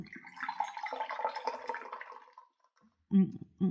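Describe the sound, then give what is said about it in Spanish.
A spoon stirs sugar into a glass of water, the sugar not dissolving, a steady swishing, watery churn for a couple of seconds, then two brief, louder low-pitched bursts. “¿no te duele la mano de tanto mover esa cuchara? Sí, pero por más que le muevo, el azúcar no se disuelve.”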